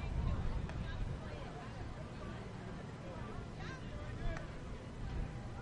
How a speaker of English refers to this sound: Just notice this. The wind has picked up, and now it's shifted totally in. You might be able to hear it on the crowd microphone.